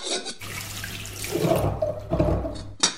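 water running

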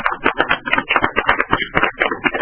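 audience applause

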